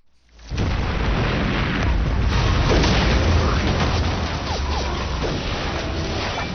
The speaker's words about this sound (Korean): 귀를 울리는 폭음과 총성이 연이어 들립니다. 기습 공격을 받은 한국군이 연달아 쓰러지고 돌격 명령을 받은 중국군이 적진을 향해 돌진합니다. 바로 중국 연속극 38선에 나오는 한 장면입니다.